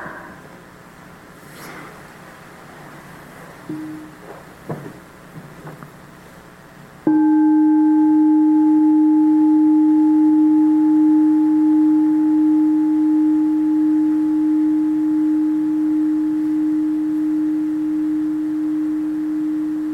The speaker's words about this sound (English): Maybe you listen to one sound of the bell.